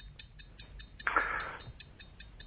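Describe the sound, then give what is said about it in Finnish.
A quiz game's bomb timer ticks steadily and quickly, about five crisp ticks per second, with a brief soft hiss passing through the middle. No one speaks. “Tän aihekategoria on tulevan naistenpäivän kunniaksi naisnäyttelijät ja kello lähtee täältä.”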